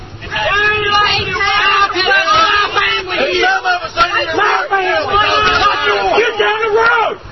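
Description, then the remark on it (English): Counter-protesters following a protest caravan along a highway yell and scream over one another in a loud, steady, overlapping din of raised voices that rise and fall in pitch, with no pause for the whole stretch. “Did you hear the screaming?”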